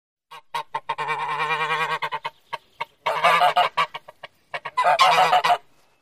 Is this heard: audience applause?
no